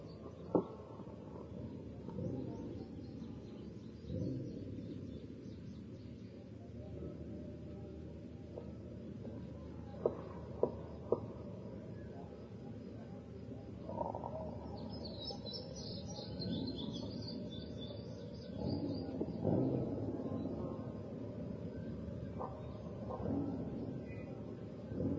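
Birds chirp faintly and intermittently, with a brief cluster of higher tweets partway through, all over a steady low rumble of background noise.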